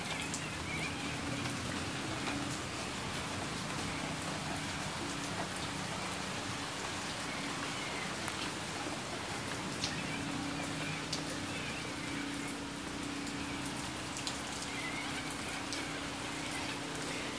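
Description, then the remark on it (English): Steady rain falls in Perth throughout, a dense, even hiss of drops pattering on a surface with a faint low hum underneath and no voices. “This rain is a little late actually, but I'm sure it will still be welcome.”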